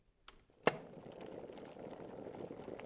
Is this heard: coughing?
no